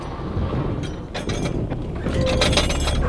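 A ship running aground on a reef, its propeller spinning freely: a heavy, continuous low rumble with scattered cracks, clinks and splintering crashes breaking through, the grinding growing louder toward the end.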